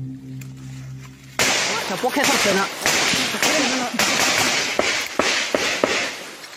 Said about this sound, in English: But the spell is broken at sunset. Sudden bursts of gunfire ring out very nearby. Students dive under their desk. It turns out it's just a drill, but a reminder that across Myanmar, war is still raging.